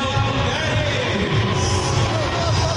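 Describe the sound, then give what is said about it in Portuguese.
A loud stadium crowd of Grêmio fans boos steadily for about three seconds as player number 33, Léo Pérez, is announced in the lineup; a dense, sustained roar of low voices with no pauses and no clear individual speech. “Sonoras vaias.”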